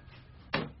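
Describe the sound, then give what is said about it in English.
A door closes with a single solid thud partway through, its sound lingering briefly before fading back into quiet room tone. No one speaks. “could you shut the door?”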